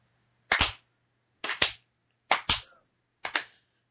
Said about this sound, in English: That deserves a slow clap.